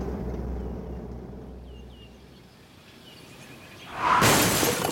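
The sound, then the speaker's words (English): A low engine rumble fades under faint bird chirps, then a car crashes into a tree: a sudden, loud burst of crunching and shattering noise that carries on to the end. “No, I heard a crash. Magnus and Claudia had an accident. Magnus drove into a tree.”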